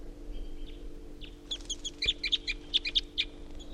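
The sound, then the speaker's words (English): Wild birds perched at the top of a tall ponderosa pine call in a quick series of sharp, high chirps and tweets, overlapping and irregular, over a faint steady low hum with no voices. “And that tupper was just joined by another wild bird.”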